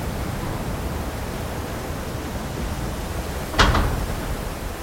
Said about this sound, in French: This is one of the buildings on Macquarie Island. When Quand j'enregistre du vent, c'est le passage du vent dans l'air, mais aussi le son du vent qui active des structures, des surfaces ou des matériaux différents.